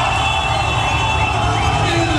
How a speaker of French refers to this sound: Voilà, vous entendez la foule en délire à Téhéran pour les autorités.